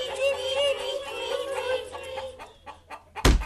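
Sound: chickens clucking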